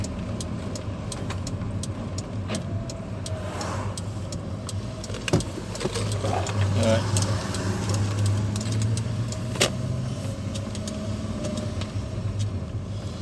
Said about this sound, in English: Ah, kiddies being dropped off to school, waiting for the school bus.